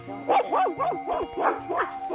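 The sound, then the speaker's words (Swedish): Dogs bark in a rapid, overlapping series of about six loud yelps and barks over a steady low hum, inside a kennel with indoor space for 16 runs. “Nu är vi på väg in i hundgården som ni kommer strax att höra.”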